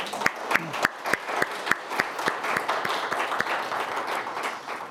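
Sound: audience applause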